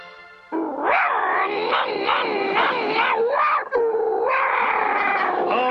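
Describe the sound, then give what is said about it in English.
A dog lets out a loud, sustained snarling growl meant to sound like a tiger's roar, rising and falling in pitch for several seconds with a brief break, without talking. “Atta boy, limber up those legs, and remember, you're a tiger. Growl.”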